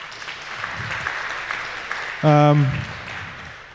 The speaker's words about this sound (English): Give these people a warm applause because they traveled very far.